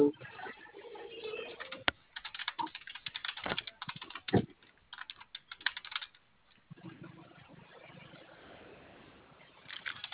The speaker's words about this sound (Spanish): Sí, es tu teclado, pero de la caja, que prenda.